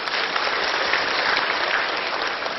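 Sustained applause from an audience for a participant who answered 96, a dense, steady wash of many hands clapping at even loudness for a few seconds, with no voices standing out.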